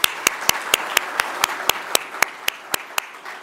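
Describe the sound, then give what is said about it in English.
An audience applauds New York Governor Kathy Hochul in her hometown of Western New York, a dense wash of clapping filling the room, with one loud clapper striking sharp, evenly spaced claps throughout, about four per second. “Join me in giving her a round of applause.”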